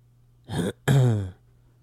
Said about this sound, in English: Did the moment of silence start after the cough? That wasn't a cough. It was just a little... I was just clearing my throat, man.